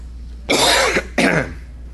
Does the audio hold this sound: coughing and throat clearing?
yes